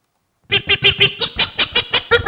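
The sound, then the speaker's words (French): A quick, evenly spaced run of about a dozen loud, nasal bird calls in three short sets, each from a different bird with a different beak opening and dominant frequency, so the tone shifts slightly from one set to the next. “3 séries, ça c'est un individu A, un individu B et un individu C, tous les 3 caractérisés par des ouvertures de bec différentes et donc des fréquences dominantes différentes.”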